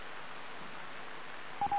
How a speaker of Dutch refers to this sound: Oh, mijn pc is aan piepen.